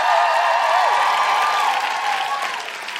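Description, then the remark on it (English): Sustained audience applause for a musical guest at a show at Vicar Street, a dense steady wash of clapping at a loud, even level that tapers slightly toward the end, with faint cheering mixed in. “And can we have an enormous, enormous round of applause for our incredible musical guest”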